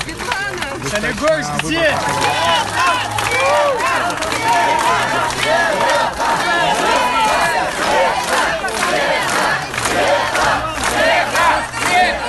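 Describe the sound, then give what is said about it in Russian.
Several hundred supporters of Svetlana Tikhanovskaya roar in a sustained ovation at polling station No. 21 in School No. 137 on Kalinovsky Street, where she voted, with overlapping shouts, cheers and clapping forming a dense, loud wall of noise that never lets up. “Около участка ее встречали несколько сотен сторонников, которые устроили овацию.”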